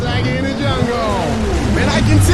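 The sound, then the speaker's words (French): Engines of motorcycles drone and rev with rising and falling pitch in the background, steady and fairly loud, mixed with a blur of voices talking over them. “C'est quoi, c'est des motos qu'on entend derrière?”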